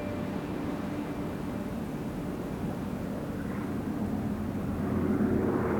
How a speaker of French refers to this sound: Deux jours après le crash, dans l'après-midi, un bruit de réacteur. Les rescapés lèvent les yeux, un avion les survole.